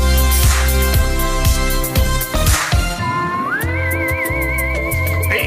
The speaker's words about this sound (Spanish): Mientras vas silbando, relajado, todo es perfecto.